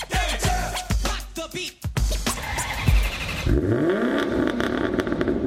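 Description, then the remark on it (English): A car engine revs hard and races past, its roar rising and falling through several quick bursts before settling into a loud, sustained growl with a rising whine. “They're fast and they're furious. Those are the kind of cars you'll see at the 2023 New Hope Automobile Show.”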